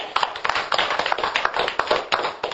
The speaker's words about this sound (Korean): 예, 우리 이분한테 박수 좀 합시다.